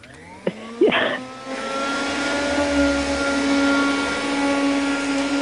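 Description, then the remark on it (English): A couple of clicks, then a vacuum cleaner switches on and spins up into a loud, steady whirring drone that runs to the end, with no voices, as it hoovers up sawdust left from putting up flat-pack furniture. “I just need to hoover up the sawdust.”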